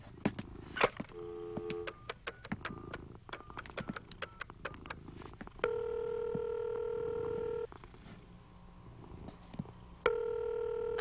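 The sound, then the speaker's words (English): A telephone is dialed with a quick series of short beeping keypad tones and clicks, then a steady ringing tone sounds twice through the line with a pause between rings. “where's the phone?”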